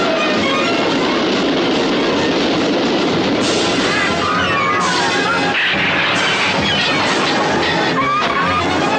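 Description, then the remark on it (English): A train, the Orient Express, originally heading to Dresden, rolls along the rails, loud, with a continuous rumbling clatter and shrill metallic squeals rising over the din for several seconds. “Where was this train originally heading? Dresden, look. It is now the Orient Express.”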